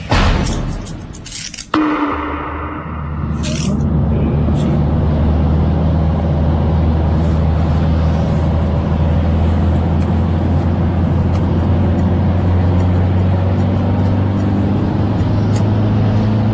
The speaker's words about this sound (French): Camion, hein.